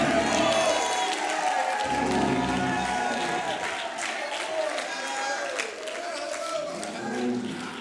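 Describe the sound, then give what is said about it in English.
An audience shouts and cheers together in a loud, sustained roar of many voices, with scattered clapping mixed in throughout. “Shout. With the voice of triumph.”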